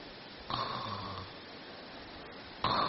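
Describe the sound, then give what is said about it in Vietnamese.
A voice imitates the snoring of a person who has just fallen asleep, with a long, droning rasp lasting under a second, then another snore-like rumble begins near the end, fairly loud over a quiet background. “Đấy, vừa nghĩ một cái là ngáy o o ngay.”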